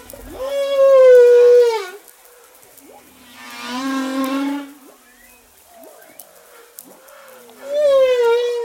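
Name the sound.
whale song vocalization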